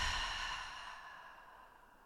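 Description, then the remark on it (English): A slow, deep breath in through the nose and let out through the mouth during a meditation, an airy sigh that gradually fades over about two seconds, with no talking. “So that will be breathing in through the nose and then letting go, letting the air out through your mouth.”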